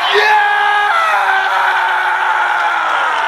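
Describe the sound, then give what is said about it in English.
A single loud, drawn-out triumphant scream, held for over three seconds with its pitch sagging slightly toward the end, with no talking. “Screaming to the heavens like Alex Ovechkin after a Stanley Cup victory.”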